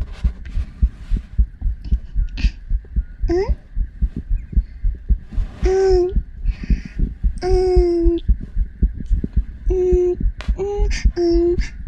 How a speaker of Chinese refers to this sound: 心跳是左边哦。